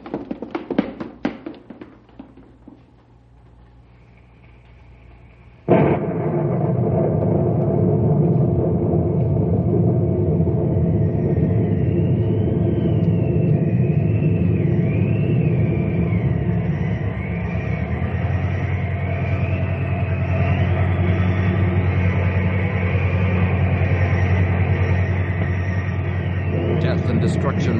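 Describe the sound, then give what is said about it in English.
A tornado's roar: after a few sharp taps, a deep, loud rumbling roar bursts in and holds steady to the end, with a thin, wavering whistle riding high above it. “The funnel is lifting. It's drawing back into the cloud.”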